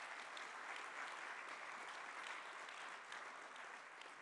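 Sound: audience applause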